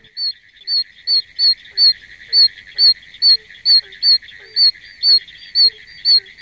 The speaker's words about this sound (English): The call is a series of piercing, high-pitched tones or squeaks, a lot like the peeps of baby chickens.